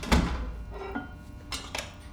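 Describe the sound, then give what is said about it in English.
A heavy basement door thuds shut, followed by a few sharp metallic clicks as its lock is turned. No one speaks. “The basement door closed too. Locked, by the sound of it.”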